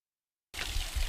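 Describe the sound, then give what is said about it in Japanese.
A small waterfall, about 4–5 metres long, in temple grounds splashes steadily as water drips down between rocks stacked about 10 metres high. A continuous hissing rush of water with a low churning undertone cuts in abruptly after a moment of silence. No voices. “境内に入りますと何やら滝が流れている音が聞こえてきます”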